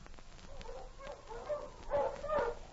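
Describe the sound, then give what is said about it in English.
Sergeant Preston's sled dog team, led by King, barks and yips excitedly as it stops in the snow in front of Pierre's trading post. Short overlapping calls bunch into louder bursts toward the end, with no talking. “It was over a week later that Sergeant Preston stopped his dog team in front of Pierre's trading post on his regular patrol through his territory.”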